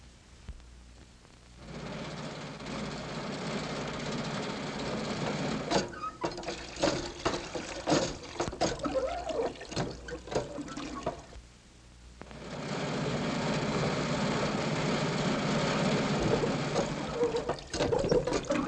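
A crippled car's rough, rattling engine runs unevenly as it starts off for help, sputtering and clattering, cutting out for a moment, then picking up again in a steady, noisy rumble. No one speaks.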